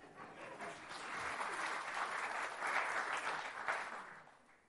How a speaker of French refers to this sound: Vous avez le droit d'applaudir, hein, si vous voulez.